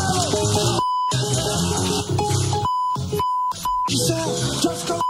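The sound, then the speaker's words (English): Loud, steady electronic beep tones from a Jesse Watters TV segment repeat several times, alternating with harsh, buzzy bursts of noise in a choppy on-off pattern. No one speaks. “Oh, but let me go back to the beep, beep, beep for just a second here.”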